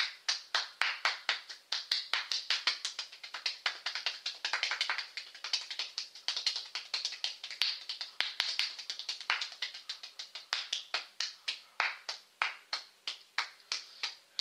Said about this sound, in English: After a while when you clap. So don't expect that you can do it for a whole minute straight.